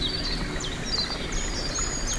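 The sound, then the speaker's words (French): Soft, steady lapping of water fills the background in a forest, while small birds chirp and tweet repeatedly overhead. No voices. “Et le doux clapotis de l'eau.”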